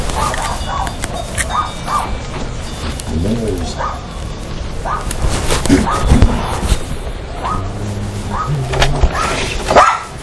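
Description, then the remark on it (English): A dog barks in scattered bursts over a noisy outdoor background, with pigeon-like cooing mixed in and no clear speech. “Killer dog.”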